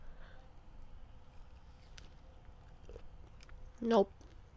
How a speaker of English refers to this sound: So, let me take a bite of this strawberry and see if that makes a nice sound. I think they do. I think I've seen some, like, ASMR videos where people do strawberries, so let's see.